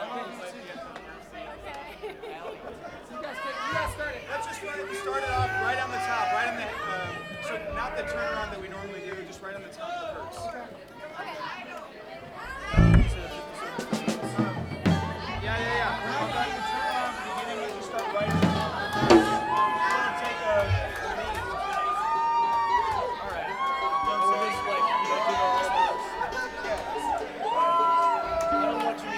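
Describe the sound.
A crowd of girls screams and shrieks continuously, many high-pitched voices overlapping into a steady din, with a couple of sharper, louder bursts partway through.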